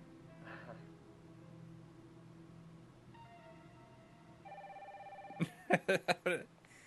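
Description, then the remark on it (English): An old-fashioned wired telephone rings loudly, a quick run of about five sharp bell bursts at the end, preceded by faint steady electronic tones and a low hum. “It's like a wired phone on...”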